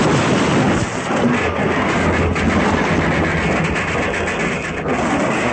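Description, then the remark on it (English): A locomotive engine derails and crashes in a loud, continuous roar of heavy rumbling and grinding metal, dense for several seconds with no voices. “That's what Deuce planned to have happen to the whole train. A derailment”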